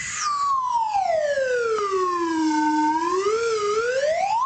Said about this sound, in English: is only one thing that is called for in this situation, and that is the Edge weather slide whistle.